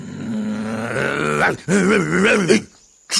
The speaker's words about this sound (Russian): Кто это лает? А, это ты, Мастино? Почему ты здесь, а не в своем домике?